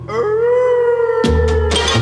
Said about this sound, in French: Au moindre coup dans une armoire, on entend claquer les mâchoires et les chiens hurlent à la mort.